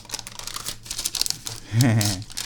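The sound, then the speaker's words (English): Soft crinkling and papery crackles as a baked solid mass, just lifted out of its pan, is slowly peeled away from paper, followed by a brief voiced exclamation near the end. “Oh my God, it's peeling.”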